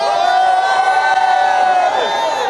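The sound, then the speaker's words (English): A crowd of voices shouts and cheers together in a loud, sustained roar of sung-out cries that holds steady for a couple of seconds before tapering slightly, shouting in the style of a Baptist church. “That's the kind of shouting they did.”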